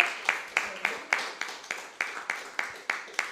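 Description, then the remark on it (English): An audience applauding, its clapping falling into a steady, even rhythm of about a dozen sharp claps over a few seconds at moderate loudness, with no voices over it. “Can we applause her for a round?”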